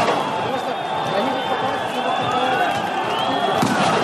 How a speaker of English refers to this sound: Flashbang grenades, tear gas, water cannons, SWAT teams beating and arresting protesters.